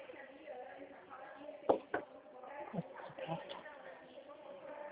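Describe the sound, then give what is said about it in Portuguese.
A door blown open by the wind bangs with a couple of sharp knocking thuds, followed by a softer knock, while people talk in the background. “Não vento que abre essa porta.”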